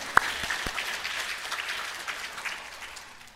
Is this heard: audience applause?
yes